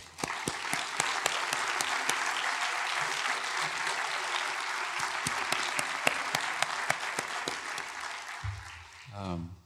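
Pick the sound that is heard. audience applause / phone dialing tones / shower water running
audience applause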